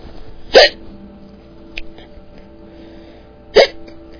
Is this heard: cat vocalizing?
no